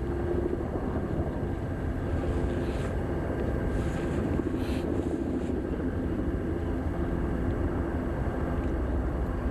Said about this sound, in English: And the moment came, and the only thing you could hear were the helicopters from the news crews.